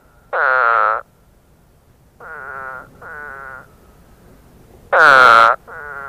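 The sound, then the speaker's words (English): A spadefoot toad gives five harsh, nasal, explosive calls in uneven sequence, two loud bursts and three softer ones, each about half a second long, with no talking. “The spadefoot toad has an explosive nasal utterance, somewhat like an exaggerated cartoon vomiting sound.”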